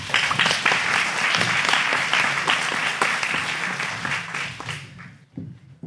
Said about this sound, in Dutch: Applaus!